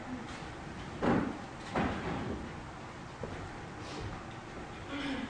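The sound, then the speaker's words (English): A chair is fetched and set down during a church service, giving two heavy wooden knocks and scrapes about a second apart, followed by softer shuffling bumps. “I want to get a chair because I know we're going to need a few here in a minute.”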